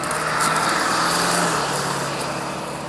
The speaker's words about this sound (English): Hang on, there's a bus going by.